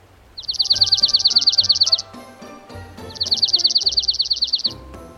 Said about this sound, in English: Want to know if there's a dark-eyed junco close by? then this is what you should listen for.